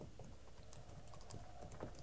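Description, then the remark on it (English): Faint, muffled clopping of approaching horses' hooves, a quick irregular patter of soft knocks repeating steadily for a couple of seconds with no voices over it. “What is it? Horses.”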